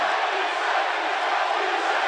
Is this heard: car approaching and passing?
no